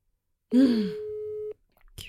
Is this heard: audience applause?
no